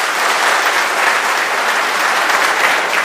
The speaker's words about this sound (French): Merci d'être là, et je vous demande de l'applaudir, s'il vous plaît.